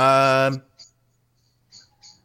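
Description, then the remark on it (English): Birds outside the door, a mama bird with babies, call: a loud, harsh, tonal squawk lasting half a second, then a few short, faint high-pitched chirps separated by brief silences. “No, it's the birds outside the door zone.”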